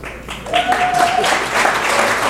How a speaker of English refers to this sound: Okay, so there you go. That's the video. You can applaud the video.